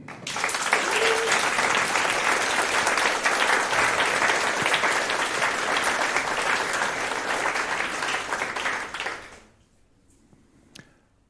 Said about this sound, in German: Zeigt euch, dieser Applaus ist für euch.